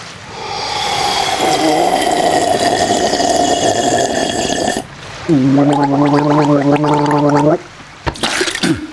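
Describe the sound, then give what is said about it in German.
Loud gargling of a big sip of water from a water glass, a bubbling, throaty rattle, first a long wet stretch, then a voiced gargle with a steady hum behind it, ending in a few short splutters. “Wir nehmen also einen kräftigen Schluck aus dem Wasserglas.”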